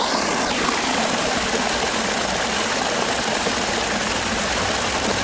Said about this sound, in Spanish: Y en mitad del desierto, este sonido de agua, ¿qué significa? Pues mira, este sonido está grabado por mí hace unos días en una fuente, en un arroyo que fluía por el palmeral de Al-Ula. Es un oasis de kilómetros y kilómetros de palmeras,